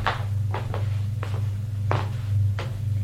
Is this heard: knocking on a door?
yes